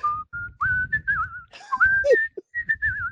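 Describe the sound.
A person whistles a lively, bouncy rock and roll hit, the notes sliding and trilling in quick phrases over a low rhythmic thumping backing, with brief pauses between runs.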